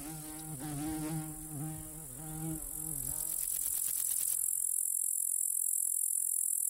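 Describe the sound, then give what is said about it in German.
A common meadow grasshopper (Chorthippus parallelus) in a meadow gives a brief stridulating verse of rapid dry ticks, preceded by a wavering insect buzz, all over a steady, faint high-pitched meadow insect hiss. “Gemeiner Grashüpfer, Cortypus parallelus.”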